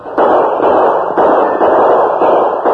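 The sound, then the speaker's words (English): A rapid volley of gunshots exchanged at a distance with masked bank robbers fleeing on horseback from behind a town bank, sharp cracks every half second or so over a continuous rumbling, crackling wash, loud and sustained with no voices. “The distance was too great for accurate gunfire, and the bank thieves mounted and spurred their horses toward the west.”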